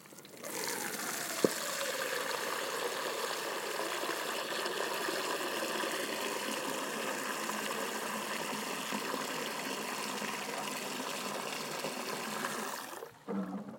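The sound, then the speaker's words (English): Water gushes steadily into a dog's water bowl, a large former mixing bowl, for about thirteen seconds, a loud, continuous rush with no talking, cutting off abruptly near the end. “There we go. Water for you, darling.”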